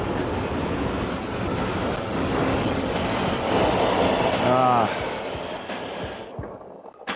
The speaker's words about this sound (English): That sounded kind of weird. Something's going on with the Subway effect.